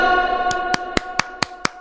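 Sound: applause sound effect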